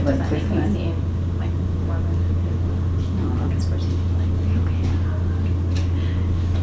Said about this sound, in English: Printers are working this morning.